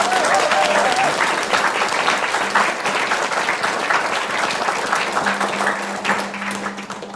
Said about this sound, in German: für die alle mal einen kräftigen Applaus, die haben uns sehr gut geholfen.